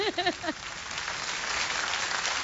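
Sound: applause sound effect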